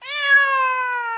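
A single drawn-out cat meow, clear, with a steady tone that dips slightly in pitch as it trails off over about a second. No other sounds accompany it.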